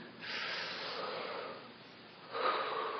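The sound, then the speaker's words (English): A long, deep breath drawn in with a soft airy rush, easing off, then a stronger exhale pushed out, during instructed breathing after a prayer, no talking. “Let us now take a deep breath.”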